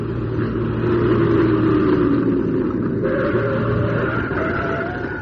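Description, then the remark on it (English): A car engine roars on a road, revving with a steady heavy rumble as its pitch climbs and shifts, continuous and loud throughout with no voices. “Get that car off the road!”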